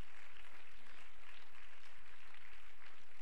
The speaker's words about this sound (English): And would you clap your hands and give thanks to the Lord? Come on, everybody, let's worship Him.